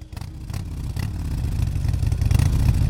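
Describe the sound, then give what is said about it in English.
A Harley-Davidson motorcycle engine rumbles with a deep, throaty tone, revving and growing steadily louder over a few seconds. No one speaks. “As Angela prepares to ride off into the sunset, we turned our attention to Harley Davidson, the great maker of motorbikes.”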